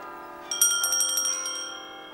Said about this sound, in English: The bells. My husband used to love the bells. You can hear them so well from here.